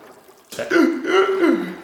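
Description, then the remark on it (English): After a brief hush, a voice imitates the sharp, involuntary gasping that comes on hitting really cold water, a fairly loud run of shuddering breathy vocal pulses lasting over a second. “Again, in training, I'd practice in cold water, taking my mask off, and I knew, and when you did that, you get the involuntary gasping in water where you're just that, you know, and you can't stop it when you hit really cold water.”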